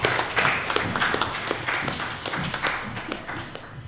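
A crowd applauds steadily, many hands clapping together in a dense, continuous patter that stays fairly loud and even from start to finish, with no voices heard.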